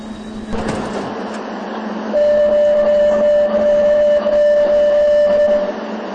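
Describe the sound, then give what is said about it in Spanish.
Steady rumble of a metro train running on a trip through the city, heard from inside the carriage, next station Sagrada Familia, with a sustained high whine rising in from about two seconds and lasting to near the end; no one speaks. “Seguramente lo detectaréis bien, el ruido es mucho menor aquí dentro del convoy. Este viaje en metro por la ciudad significa un gran recorrido.”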